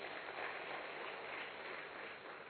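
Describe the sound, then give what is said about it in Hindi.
Sustained applause from an audience for those present who are or have been in politics, a dense, steady wash of many hands clapping at once that stays loud throughout before easing slightly at the end. “चलो आप सभी का बहुत बहुत अभिनंदन, आपके लिए जोरदार तालियां लगाए।”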